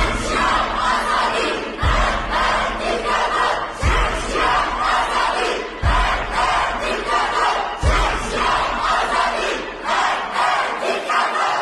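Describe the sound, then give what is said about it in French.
A large crowd of Iranian protesters chants a slogan of liberty in unison, loud and rhythmic, with a strong beat landing about every two seconds like a stomp or drum hit under the massed voices. “Qu'on soit balouche ou qu'on soit kurde ou qu'on soit perse contestataire, on se retrouve dans ce slogan-là, même si ce slogan n'a pas pour origine l'Iran, mais a pour origine quand même la liberté et les revendications justement égalitaires.”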